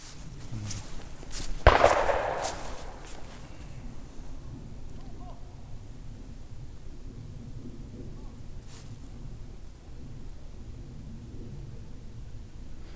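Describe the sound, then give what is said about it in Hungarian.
A single hunting gunshot from hunters shooting beside the listeners cracks out early on, followed by a short rolling echo, then fades into quiet outdoor background noise with no voices. “Na mindegy, egy lövést azért sikerült begyűjteni.”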